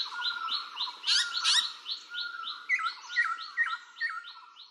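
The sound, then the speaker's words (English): Birds singing in a busy, overlapping chorus of repeated chirps and trills, steady throughout, with no voices present. “I can hear birds singing.”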